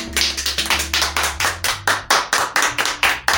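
Steady, rhythmic clapping at about four claps per second, loud and even, like an audience applauding in unison to open an evening talk program, with a low droning tone underneath and no talking.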